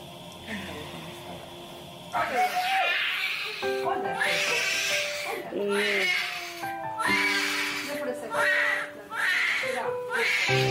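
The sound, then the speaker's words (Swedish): A newborn baby girl cries just after birth in loud, repeated wailing bursts, each about a second long, beginning after a quiet start and continuing steadily with brief breaths between. “Nu är hela huvudet ute, baby. Varför skriker hon inte?”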